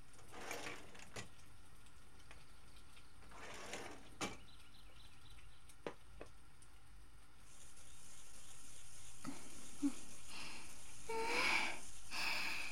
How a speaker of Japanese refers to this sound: あ、せや、だし巻きは大根おろしと醤油で食べよ。今からおろすし、あんたはそのまま続けてて。